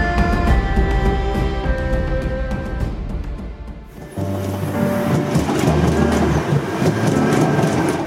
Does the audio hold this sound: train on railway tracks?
yes